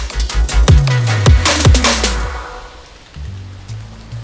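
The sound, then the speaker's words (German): Rain patters against windows with a steady hiss and a burst of sharp, distinct taps early on, then settles into a softer, quieter wash with a low hum beneath. No one speaks. “Der Regen prasselte gegen die Fenster”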